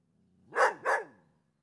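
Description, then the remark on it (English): A dog barks twice in quick succession, two sharp, fairly loud barks about a third of a second apart, with no one talking over them. “oh my God, there is a dog right now. Like, just freaking, this dog is going crazy.”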